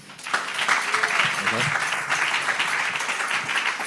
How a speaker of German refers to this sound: Cooler Event hier, schön, dass ihr alle da seid. Applaus für die beiden nochmal bitte.